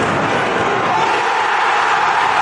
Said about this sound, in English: have you seen all these clips going viral on TikTok and stuff from people in the crowd? Like, this is what the crowd sounds like before the goal. And now it's about to happen. Here it comes.